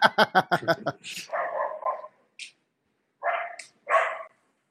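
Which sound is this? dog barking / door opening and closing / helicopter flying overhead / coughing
dog barking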